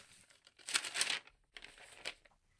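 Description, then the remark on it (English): Joss paper crumpling and crinkling, a dense burst of crackly rustling followed by a few sharper, separate crinkles as it is folded, in an otherwise quiet room. “The rustle of papers as they were crumpled, folded, glued, and set, pushed against the silence of the room.”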